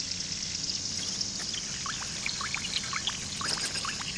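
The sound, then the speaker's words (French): Water runs from an open tap in an exhibition installation in a steady stream, with bright gurgling bubbles popping over a constant hiss. No one speaks. “Faites une pause pour être à l'écoute de l'eau qui coule.”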